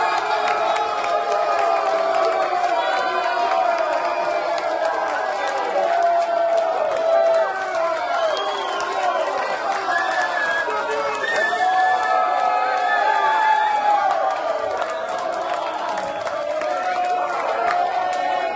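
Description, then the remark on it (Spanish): A crowd of Spanish fans abroad erupts in cheering after a Spain goal seen on a replay, many voices shouting and whooping together in a dense, steady roar that stays loud throughout without letting up. “Todos se levantaron y sostuvieron la respiración. Efectivamente, no se pudo ver el gol en vivo, pero sí la repetición y la emoción se desbordó.”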